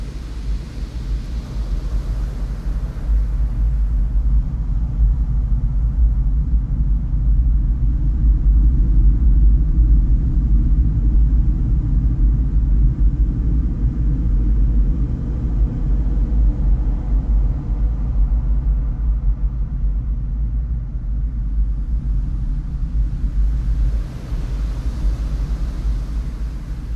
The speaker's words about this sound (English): it has a special property where that when the wood fibers are excited by acoustic energy, in this case it's the sound of the ocean itself, that the fibers actually vibrate. And inside, we get to listen to nature's largest violin.